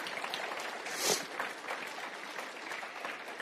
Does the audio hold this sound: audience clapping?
yes